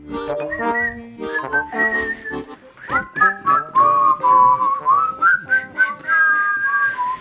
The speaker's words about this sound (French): Et un triolet de sifflement, c'est beau ça. Un triolet. C'est beau, je sais pas, mais bon.